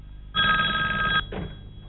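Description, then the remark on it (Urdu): A telephone bell rings once in a sustained, bright burst lasting nearly a second, then cuts off, followed by a brief softer echo of the ring. “صحیح، فون اٹھاؤ.”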